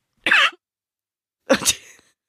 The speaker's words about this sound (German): Da musste ich gerade mal husten und kurz gemutet.